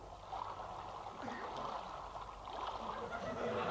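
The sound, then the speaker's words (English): Steady river water rushes and burbles, with small splashes rising through the continuous flow for a few seconds. No one speaks. “Magnolia fled sobbing to her favourite secret place by the river.”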